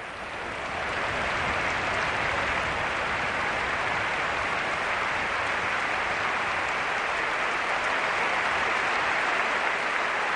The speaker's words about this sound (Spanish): Este es el sonido del minuto de aplausos en San Mamés para Chechu Rojo.